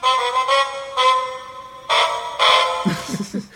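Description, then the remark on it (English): A short electronic jingle of buzzy, harmonic beeping notes plays in a rhythmic sequence with small pauses between them, like the 'shave and a haircut' knock tune, ending in a lower, muddier tone. “writing the phrase, shaving a haircut, two bits”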